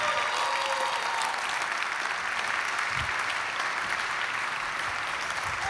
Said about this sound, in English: My friends, would you please give a celebrated, warm, enthusiastic, over-the-top, clapping from your toes to your tongue